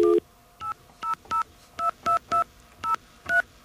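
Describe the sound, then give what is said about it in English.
Touch-tone phone dialing AT&T to reach a representative: about nine short, clear dual-tone beeps pressed at a slightly uneven pace, each a steady electronic pitch, with no voices over them. “Before we go to phone calls, let's see if we can get an AT&T representative.”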